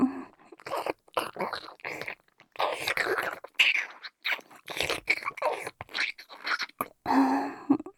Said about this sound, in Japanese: まずは、人参さんを噛み噛みして、もぐもぐ。噛み噛み。